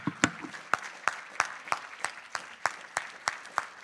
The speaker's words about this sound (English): And everybody said, one last time, clap your hands and give Jesus some praise.